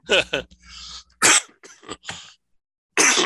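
A sneeze: sharp, breathy bursts, with a quick double burst near the start and another loud blast after a short pause, no talking.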